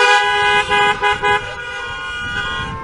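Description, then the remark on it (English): Loud, sustained car horns blare together, with a few short breaks in the first second and a half before settling into one long continuous honk. “And guys, if you're glad we've passed those days, give me a honk.”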